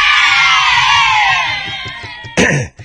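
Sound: children cheering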